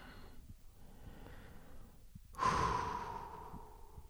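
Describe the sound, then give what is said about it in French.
Audible breathing with no talking: a soft, airy inhale first, then a louder, broad exhale that rushes out and slowly fades away. “Respiration.”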